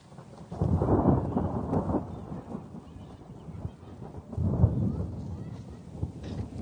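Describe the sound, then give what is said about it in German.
Low, deep rumbles of thunder roll in two long swells, the first stronger, the second fading off, with a steady rain-like hiss underneath and no talking, during a thunderstorm on a very cloudy day with a few raindrops falling. “Ja, ich weiß nicht, ob man es hört, es gewittert.”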